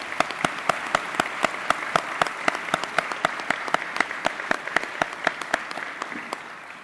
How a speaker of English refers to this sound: And ladies and gentlemen, once again, join me in welcoming the President of Iceland, Dr. Ólafur Grímsson, who is live online at this moment. Let's give him an applause.